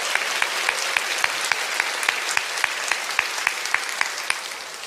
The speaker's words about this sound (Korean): 특별히 아멘을 크게 해주신 우리 어린이들을 위해서 다시 한번 격려의 박수 부탁드립니다.